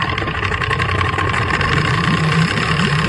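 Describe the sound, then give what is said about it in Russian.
A motor launch engine chugs steadily, a low throbbing drone with a rough, even rhythm that holds at a constant loudness throughout, with no voices. “«Шубу! Шубу! Шубу-бу!» Старательно забубнил двигатель.”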